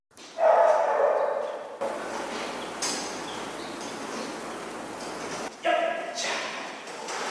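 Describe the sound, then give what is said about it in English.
A Formosa mountain dog, an explosives-sniffing police dog with the New Taipei police in Taiwan, gives two loud barking bursts, one near the start and one near the end, over a steady background hiss with a busy, noisy stretch between them. “This Formosa mountain dog is a fresh face on the New Taipei Police Force.”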